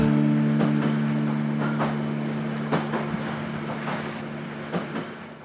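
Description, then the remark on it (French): A train rolling along the rails during a thunderstorm, with a steady low hum and tonal drone, punctuated by irregular metallic clicks and clacks of wheels over track joints. No one speaks. “Le bruit du train se mêle au bruit du tonnerre à l'extérieur.”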